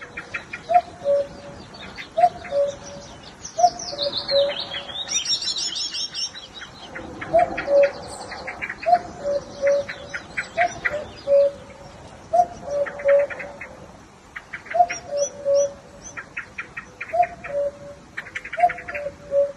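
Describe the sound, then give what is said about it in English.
In the morning outside a house near Carrigdaniel in County Kerry, a cuckoo calls repeatedly at a steady pace, each call adding an odd third syllable to the familiar two-note pattern, with other birds chirping and trilling in the background. “That is indeed a cuckoo, or perhaps a cuckoo. It obviously hasn't read the field guide, so it doesn't know what it should be doing.”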